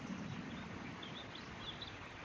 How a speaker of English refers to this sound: Listen to the birds and, I don't know, gently flirt with the edge.